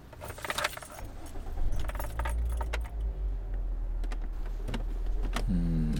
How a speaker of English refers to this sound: Okay. Let me at least move the car so no one will see us. Hold on.